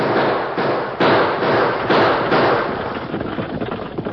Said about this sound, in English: Choctaw and Rance Purdy saw him coming. They opened fire, but the distance was too great for accurate shooting.